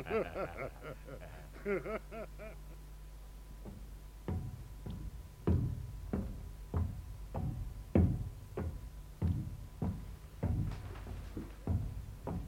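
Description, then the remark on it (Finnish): A brief stretch of laughing or vocalizing gives way to steady, repeated heavy banging on a steel door, about two blows per second, loud, continuing for roughly nine seconds. “No eihän se paukuttelun parane. Teräs ovi, kyllä se kestää.”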